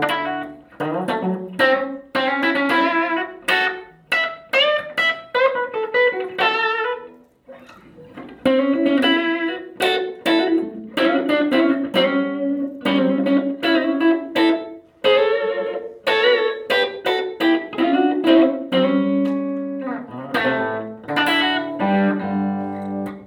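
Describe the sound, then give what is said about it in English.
An ES-335 electric guitar plays a steady run of plucked notes and chords, loud and continuous with a brief pause, its bright tone carrying a slight effects-laden shimmer and no voices over it. “It still has an electric sound”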